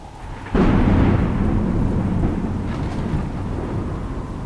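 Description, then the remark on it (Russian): A sudden loud crack of thunder bursts in after a brief quiet lull, rumbling on heavily over a steady roar of pouring rain, with no voices present. “В мгновение ока все небо заволокло тучами, засверкали молнии, раздались оглушительные удары грома и начался проливной дождь.”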